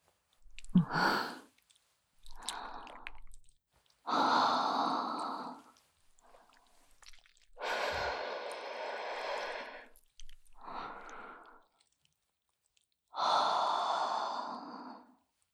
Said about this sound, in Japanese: 吐息を吹きかけられただけで、惨めにザーメンを漏らして、本当に哀れね。